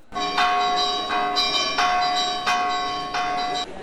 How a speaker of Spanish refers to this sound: Toquemos la campana para que la gente se reúna.